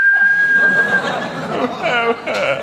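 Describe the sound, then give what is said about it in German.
A thin, steady high whistle holds one pitch for about a second beneath lively background noise, then gives way to laughter and chattering voices. “20 Minuten fange ich an zu pfeifen.”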